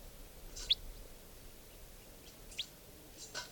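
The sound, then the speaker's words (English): Faint, high, thin chirps from a wild type 4 bird singing in the trees overhead, a few short notes spaced irregularly over steady low background noise, with no voices. “Wild type 4 bird came in, and now it's giving song. And it's in the trees above here somewhere.”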